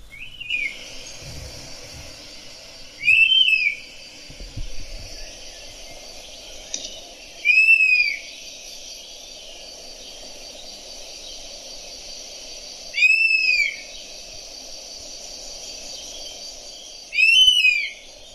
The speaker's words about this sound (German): Jetzt lasse ich noch einmal den Wespenbussard rufen, dass wir auch alle wissen, wie er sich anhört